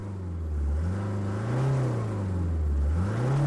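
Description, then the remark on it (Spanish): The engine of a black SUV revs up and down steadily as the driver presses the accelerator on a road going down a mountain, its low droning pitch rising and falling in waves as it accelerates, loud, with no voices. “Al sentir la boca seca, Kyung-ho pisó el acelerador”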